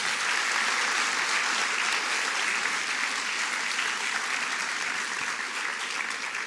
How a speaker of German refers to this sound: Genau. Vielen Dank. Wir können einen kleinen Applaus geben.